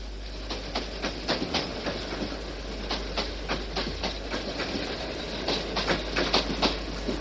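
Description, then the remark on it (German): A train rolls steadily along the rails, its wheels clacking in a quick, uneven rhythm of sharp clicks over a continuous low rumble, moderately loud, with no voices. “Wir reisten ja auch immer zuerst mit dem Zug.”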